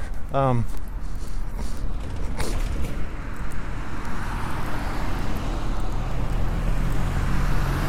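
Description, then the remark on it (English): A car idles at a street intersection, waiting while a person is led around the back of it. Its steady low engine rumble fills the scene, with a brief high creak near the start and constant traffic noise around it. “Jake's taking me around the back of the car waiting in the intersection here”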